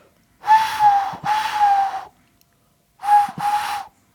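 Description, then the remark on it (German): A person imitates a cuckoo with breathy, whistled hoots: two paired two-note calls, the first pair longer and drawn out, then a short pause before a quicker second pair, all alone without talk. “Ich kann so einen Kuckuck ein bisschen imitieren.”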